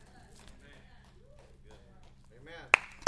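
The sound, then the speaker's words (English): Two sharp, isolated claps in a light, polite golf clap, the first louder, ringing out over a steady murmur of voices. “Golf clap. There we go.”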